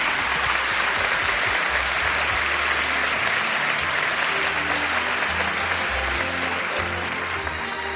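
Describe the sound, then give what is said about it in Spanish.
Sustained audience applause for a woman being honoured, a dense, steady wash of many hands clapping at a constant loud level throughout, with no pauses or voices standing out. “Y pido un magnífico aplauso para esta magnífica mujer.”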